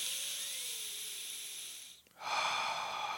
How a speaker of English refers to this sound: The solution is to breathe in through your nose. Breathing in through your nose firstly ensures that you regulate the amount of oxygen that you are taking in.